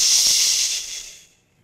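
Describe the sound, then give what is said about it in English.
A voice imitates rain on a roof with a steady, airy hiss that holds for about a second, then fades quickly to silence. No words are spoken. “And the second I said now, we heard the rain on the roof like this.”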